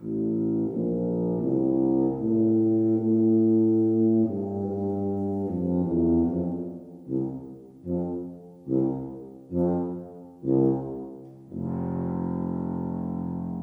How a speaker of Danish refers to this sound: Trombonerne kaldes også trækbasuner. De har både træk og slip. Og så den dybe tuba.